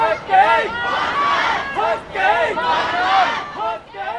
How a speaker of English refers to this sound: And the crowds made their points very loudly and clearly. One of those was anger at the police, which you could hear in their chants. Let's hear one of those.